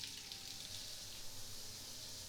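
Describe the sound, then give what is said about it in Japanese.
A steady, even hiss of warm shower water spraying onto a towel laid over a whole body, continuous with no pauses or voices. “じゃあシャワーかけていくよ。”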